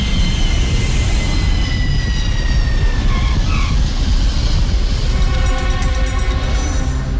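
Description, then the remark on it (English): A sound effect of a loud, steady jet engine roar with high whining tones that slowly shift in pitch, like an airplane coming in to land after a go-around, lasting several seconds with no voices. “We've had to perform what's known in the industry as a go-around. We weren't bringing the plane in correctly at all”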